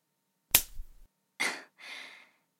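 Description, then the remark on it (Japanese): A single sharp face slap cracks out loudly, followed by two softer, hissing bursts like rustling or breath a moment later. “ビンタがご褒美なんでしょ？”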